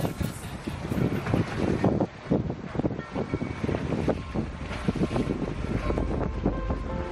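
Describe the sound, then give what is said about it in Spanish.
Wind gusts loudly against open water as waves churn and splash, a continuous rough roar with a deep rumble underneath and no voices. These are the waves and wind of San Francisco Bay during swimmer David Meca's 7.9-kilometre swim from Alcatraz. “Estamos escuchando las olas y el viento que han acompañado este lunes al nadador David Meca en su última hazaña, escapar de nuevo de la cárcel de Alcatraz y llegar a la bahía de San Francisco completando un total de 7,9 kilómetros”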